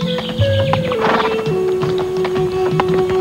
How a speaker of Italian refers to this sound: Cavallo goloso.